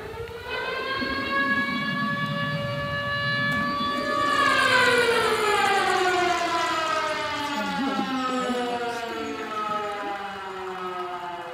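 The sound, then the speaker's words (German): A loud siren sound effect, fired by a DJ during a set, wails continuously, its harmonic tone rising and then slowly falling in pitch over about ten seconds, heard alone without any talking. “und ich das Gefühl habe, jetzt könnte es gerade so ein bisschen ein zu leises, langsames Intro machen, dann kann ich zum Beispiel schnell eine Sirene abfeuern.”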